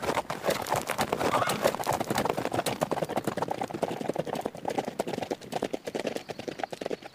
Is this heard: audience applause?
no